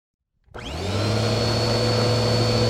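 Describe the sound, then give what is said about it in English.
A vacuum cleaner starts up after a moment of silence, its motor spinning up into a loud, steady whine with a low hum beneath, running continuously as someone vacuums the floor of a dusty house. “The house is full of dust, so I'm vacuuming the floor.”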